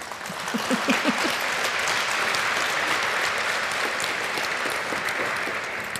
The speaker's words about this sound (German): Also ein warmer Applaus bitte